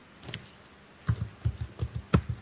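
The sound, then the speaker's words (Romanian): Keys clacking on a computer keyboard, pressed very hard and picked up by the computer's internal microphone, fairly heavy, with a couple of early taps then a quick irregular burst of about eight thumpy keystrokes. No one speaks. “S-au deși apăsat foarte tare la el, care microfonul intern.”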